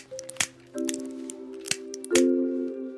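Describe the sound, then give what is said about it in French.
Several sharp, dry snaps of nioules being cracked, about four crisp cracks at irregular intervals, heard over a steady low humming tone. “Car Gaïndé le lion s'éloigne dès qu'il entend le petit bruit sec que l'on fait en cassant les nioules.”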